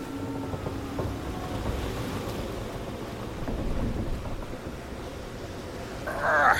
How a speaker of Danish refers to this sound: Intet land i sigte. Sikken en vild storm i dag.